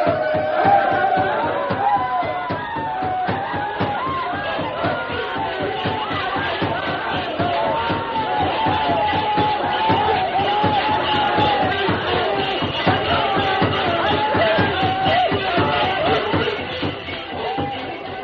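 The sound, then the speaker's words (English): A crowd of braves whoops and chants in a loud war dance, working themselves into a frenzy, over a steady, rapid pounding of stamping feet, continuing throughout before easing slightly at the very end. “Tonto knew the plan of the savages, and while they danced and shouted, working themselves into a frenzy, he slipped away unnoticed and joined the masked man.”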